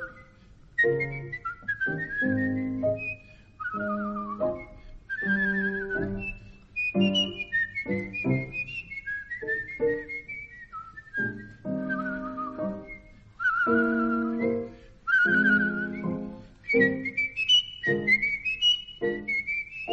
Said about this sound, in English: Do you know the real whistling bit that comes after that?